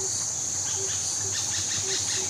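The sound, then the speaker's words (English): Small birds give high, thin raptor alarm calls, a quick cluster of sharp chirps that stands out partway through over a steady hiss of insects and outdoor background noise. “And then I was lucky enough to see them with a real eagle owl, and when I saw they made exactly the same noise, I realised I had stumbled upon their actual raptor response.”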